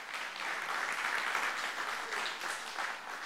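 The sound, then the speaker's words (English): An audience claps hands in praise of Jesus, a dense, steady wash of many overlapping claps sustained throughout at an even, moderate loudness with no voices standing out. “Give him a hand clap of praise for that.”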